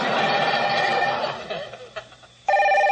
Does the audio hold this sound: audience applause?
no